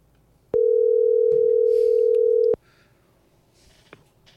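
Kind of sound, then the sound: signal or alarm, telephone line tone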